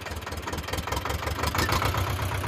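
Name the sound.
old tractor engine running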